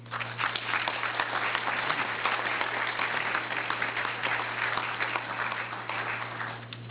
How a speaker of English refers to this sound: Now you can applaud.